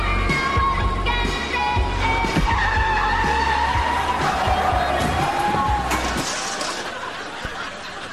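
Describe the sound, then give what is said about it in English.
A car engine roars steadily while tires squeal in long, wavering high-pitched screeches, loud and sustained for several seconds before easing off slightly toward the end. “Malibu Barbie couldn't handle a car like this.”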